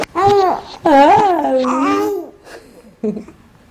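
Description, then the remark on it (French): An infant babbles in drawn-out, sing-song vocal sounds with rising and falling pitch, fairly loud, in response to its mother, followed by a brief pause and a short final coo. “Donc réponse du bébé, mais la mère élabore, elle est toujours sur le même sujet.”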